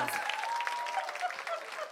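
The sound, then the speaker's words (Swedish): A packed, sold-out audience at Golden Hits applauds steadily, dense clapping spread across the whole clip with a few voices shouting and cheering over it, sustained and fairly loud without a pause. “Jo, vi är i ett fullsatt Golden Hits. Ja! Yeah! Får vi höra publiken?”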